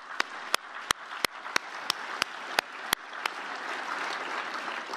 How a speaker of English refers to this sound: Big round of applause.